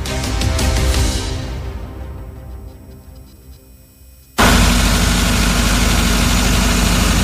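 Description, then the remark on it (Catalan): A hired power generator engine at restaurants and hotels in Baix Empordà hums continuously with a steady low drone, easing slightly before abruptly becoming louder for the final few seconds, with no voices. “Alguns restauradors i hotelers del Baix Empordà ja s'han hagut d'acostumar al zumzeig permanent dels motors dels grups electrògens que s'han vist obligats a contractar per poder tirar endavant els seus negocis.”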